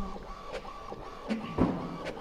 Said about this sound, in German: Also jetzt kommt da unser Snowden-File direkt aus dem Drucker rausgeschossen.